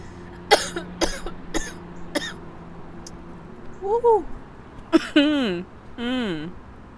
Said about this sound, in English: I always cough when I first hit it, y'all. Every time.